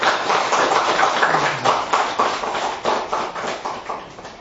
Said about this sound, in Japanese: もう一度お立ちいただき感謝の拍手をいただきます。